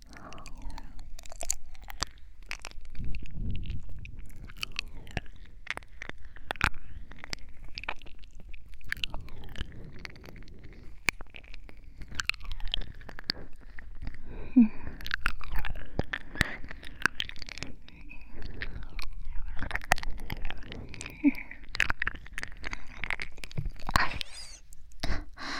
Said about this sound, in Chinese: 你咬我做什么？小狗变的，难受了。